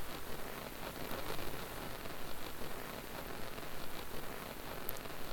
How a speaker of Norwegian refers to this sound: Se ut på de grå skyene over deg. Det regner ute. Før i tiden, som i dag, hadde Bergen flere dager med regn enn med opplett.